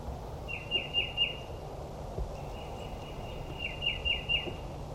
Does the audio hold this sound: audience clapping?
no